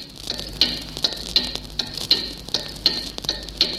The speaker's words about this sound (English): And of course, there was a station directed towards Germany. On November the 10th, 1940, its clock tuning signal first appeared on shortwave.